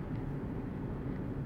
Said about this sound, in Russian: Что это? Это трамвай? Нет, это не трамвай. Это троллейбус.